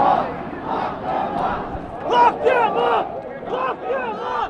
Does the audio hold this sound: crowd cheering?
yes